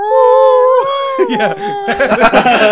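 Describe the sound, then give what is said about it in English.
A voice imitates the wolf howling from the game Twilight Princess: a long, steady, wavering tone held for nearly two seconds, which then breaks into choppy, breathy bursts of laughter. “Oh, that's the one problem with Twilight Princess is the wolf howling.”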